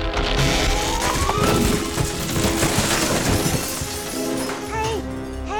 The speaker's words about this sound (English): Hey guys, your treehouse has crashed to the ground. I think it moved.